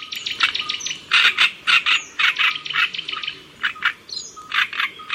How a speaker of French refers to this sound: Et à la une de la science aujourd'hui, sur les traces d'un oiseau chanteur migrateur, donc la rousserolle turdoïde.